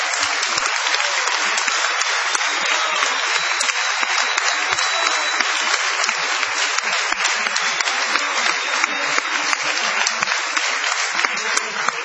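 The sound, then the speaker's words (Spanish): A crowd applauds steadily and loudly in an ovation honoring Patricio Barto, a dense, sustained wash of many hands clapping with no pauses, continuing unbroken throughout without any voices standing out. “Bueno, vamos a prolongar esta ovación que acabamos de escuchar para honrar a Patricio Barto.”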